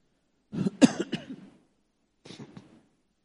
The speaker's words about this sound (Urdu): جو لوگ لائیو دیکھ رہے ہیں تو ان کو یقین ہونا چاہیے بالکل لائیو ہے. میں پانی بھی پی رہا ہوں, کھانسی بھی درمیان میں آ جاتی ہے, یہ سب نیچرل ہے.